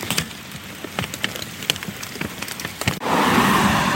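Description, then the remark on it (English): Rain patters steadily, with scattered louder drops tapping, then about three seconds in it shifts into a denser, even hiss as a quick rain shower picks up. “As expected, that was a quick rain shower.”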